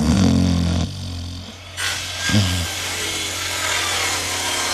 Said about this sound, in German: Den Baulärm von nebenan, der schnarchende Liebste, Autoverkehr. Welcher Lärm begleitet Sie ständig?